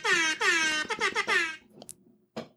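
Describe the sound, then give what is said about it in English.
A loud, blaring air horn sound effect fires off in a rapid rhythmic pattern: two long blasts, a quick stutter of short bursts, then a final long blast, with no talking over it. “Yeah, I meant to set up my stream deck to add the air horn.”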